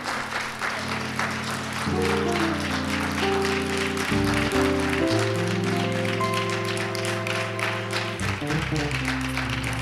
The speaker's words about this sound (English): Oh, come on, y'all can clap better than that for that word.